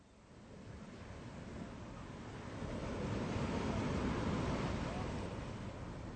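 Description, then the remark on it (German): Steady sea surf breaks against the rocks of Rügen, a broad rushing roar that swells louder about halfway through and stays full, with a hint of wind in the background. “Ich stehe hier auf den Felsen von Rügen und sehe aufs Meer hinaus.”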